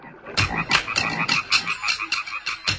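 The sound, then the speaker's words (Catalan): Frogs croak in a steady, repeating rhythm, about nine raspy pulses in under three seconds, clear with no voices present. “Si aneu a vora d'un llac i sentiu els cants de les granotes, potser teniu sort i sentiu també els ritmes del tam-tam màgic.”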